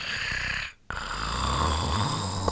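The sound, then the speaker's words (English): A sleeping tiger snores loudly, a long rasping breath that breaks off briefly before another heavy, rumbling snore fills the rest. No one speaks. “Tiger is sleeping.”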